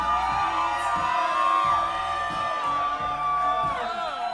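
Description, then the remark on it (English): A large concert audience cheers and screams continuously so the performer will come back and play one more song, a dense wall of high-pitched shouts and whoops, loud and sustained, with a steady low rhythmic thump pulsing underneath. “All right, they're all outside, so you gotta scream as loud as possible so they hear you.”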